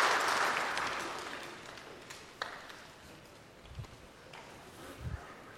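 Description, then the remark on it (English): A crowd applauds the helpers in a dense burst of applause that is loudest at the start and steadily fades out, with a few low thumps and scattered claps near the end. “Let's give all of our helpers a round of applause.”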